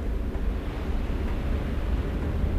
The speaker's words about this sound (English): The sea is moving quickly tonight.